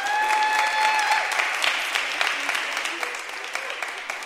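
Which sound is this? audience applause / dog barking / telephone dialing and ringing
audience applause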